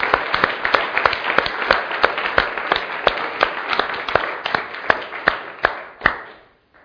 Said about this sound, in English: If he was an act on the stage, we'd be clapping and stamping our feet. Should we give him a clap offering? Is that radical? But yay!